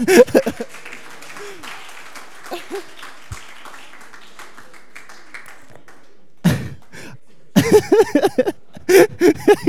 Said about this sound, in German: Ich glaube, das ist ein Applaus wert.